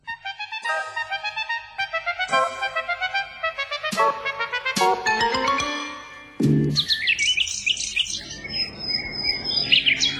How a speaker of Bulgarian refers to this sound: Ето го папагала, казва се Чопър. Радвам се, че се интересуваш от него.